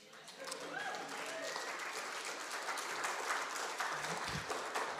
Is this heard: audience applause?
yes